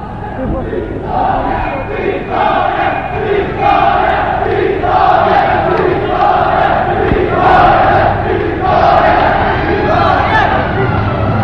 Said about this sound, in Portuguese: O povo tem avançado do Rocio e acompanha a coluna, gritando continuamente vitória e fazendo gestos à coluna de incitamento.